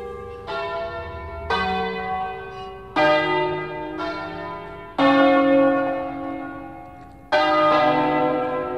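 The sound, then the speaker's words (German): Church bells in Ticino ring out in a lively, irregular Ambrosian-style peal, several bells of different pitch striking in turn with long ringing overtones that overlap and decay. Loud, with no voices. “Ambrosianisches Lüten heisst die Sorte von typischen Tessiner Glockenklängen.”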